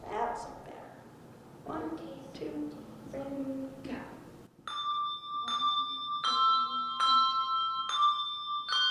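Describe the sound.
A voice talks briefly, then handbells ring out in a steady run of about six bright, clear strikes, each tone sustaining and overlapping the next, fairly loud.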